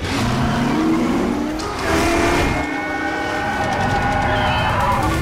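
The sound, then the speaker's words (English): A race car engine from the film Ford v Ferrari screams loudly at high speed, its pitch rising and falling through gear changes with a brief squeal of tires, loud throughout with no talking. “If you go see the new movie Ford versus Ferrari in a theater, get ready for your seat to vibrate as if you're flying on a racetrack at 200 miles an hour.”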